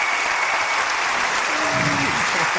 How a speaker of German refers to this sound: Und ich würde sagen, wir begrüßen die beiden mit einem herzlichen Applaus.